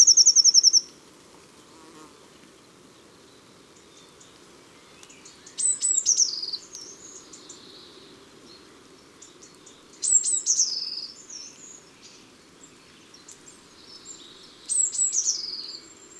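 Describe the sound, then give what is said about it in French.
A blue tit gives four short bursts of its common calls, thin, high and slightly scolding, spaced a few seconds apart, over a steady low insect-like hum that runs throughout. “Et maintenant, quelques cris communs de la mésange bleue, qu'elle lance de sa voix aigrelette sur un ton comme irrité.”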